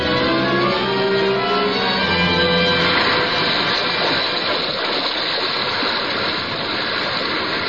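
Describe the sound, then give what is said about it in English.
Sea water surges and rushes loudly as a whale surfaces, the water swelling in broad circles and upheaving in a continuous churning swell; a low, steady hum sits underneath for the first few seconds before the roar of water takes over. “Suddenly the waters around them slowly swelled in broad circles and quickly upheaved.”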